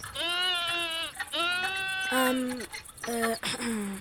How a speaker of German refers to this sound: Das müssen Schafe und Ziegen an einem Wasserloch sein.